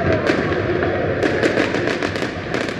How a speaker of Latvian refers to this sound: Krāšņi salūti greznoja arī lielākās Eiropas pilsētas Londona, Berlīna, Parīze un citas.